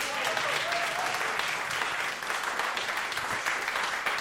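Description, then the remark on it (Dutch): Steady, dense applause from an audience for the jazz band a band at an on-location jazz recording, a continuous crackle of many hands clapping at an even loudness throughout, with a faint whistle or cheer briefly audible early on. “Nog één keer een applaus voor deze band.”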